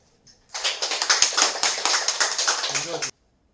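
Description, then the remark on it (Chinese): A crowd breaks into steady, warm applause welcoming a teacher to speak on the Dharma, many hands clapping together in a dense burst that lasts about two and a half seconds before stopping abruptly. “我们 热烈的掌声欢迎上司为我们说法。”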